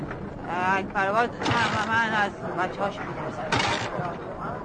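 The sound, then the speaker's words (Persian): A motorcycle engine runs as a man gets on his motorcycle, its pitch repeatedly rising and falling as it revs over a steady, noisy rumble for several seconds. “کارگر میره و مشرحیم سوار موتورش میشه.”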